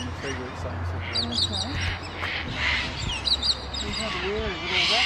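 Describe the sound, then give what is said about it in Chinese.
Harsh, raspy squawks from sulphur-crested cockatoos, large snow-white Australian parrots with pale yellow crests, repeat in short bursts against a busy outdoor background, fairly loud, with other bird calls mixed in. “鸣叫时声音粗粝，又添几分威严。”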